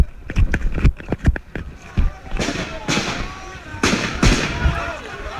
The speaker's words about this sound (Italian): Questi appunto gli spari nel corso di una manifestazione a Santiago del Cile.